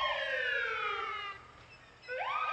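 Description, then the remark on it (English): A fire truck siren wails loudly during a sound parade through town celebrating a high school esports team's state title, its rich harmonic tone sliding slowly downward, briefly dropping off, then sweeping back up into a fresh rising wail. “They're the esports team, and like other school teams that win a state title, they get a sound parade.”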